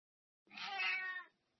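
A single drawn-out cat meow, clear, lasting under a second with a bright, slightly whiny tone, then silence.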